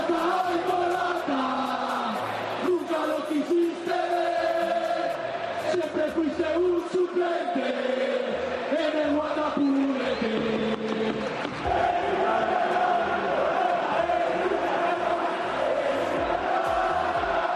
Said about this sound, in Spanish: Bueno, ¿qué dice Melchor Ruiz de esos gritos que se escucharon en un sector del Bernabéu? Bueno, el Real Madrid suele rechazar todos esos cánticos contra los rivales,